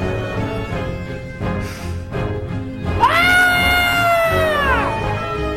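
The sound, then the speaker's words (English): A shrill, blood-curdling scream, let out by a paid intern on a Halloween afternoon talk radio show, rises sharply and holds a piercing, wavering pitch for about two seconds before trailing off, loud over a busy background. “Is letting out a blood-curdling scream.”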